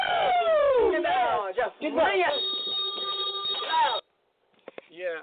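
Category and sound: signal or alarm, bell ringing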